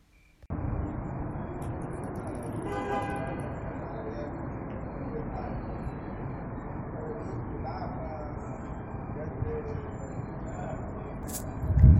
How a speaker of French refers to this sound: Ce son montre la vie de nuit quand les voitures roulent rarement et les gens passent du temps avec leurs amis et ils écoutent de la musique.